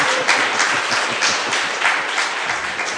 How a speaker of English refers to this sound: So clap your hand for Jesus. Taputtakaa Jeesukselle.